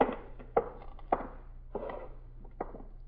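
A door being slammed, heard as a series of about five heavy, dull thuds at irregular intervals, each with a short boomy decay, over a faint low hum with no voices.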